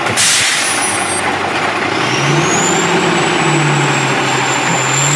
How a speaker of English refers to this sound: Three garbage trucks, not one, not two, three garbage trucks.